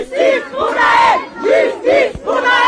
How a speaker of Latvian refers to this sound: Parīzes piepilsētā Nanterā vairāki tūkstoši cilvēku kopā ar nogalinātā jaunieša māti piedalījās protesta gājienā un pieprasīja taisnīgumu.